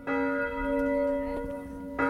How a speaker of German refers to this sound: Die Glocken der kleinen evangelischen Kirche in Kürtendelling läuten in der bergischen Idylle.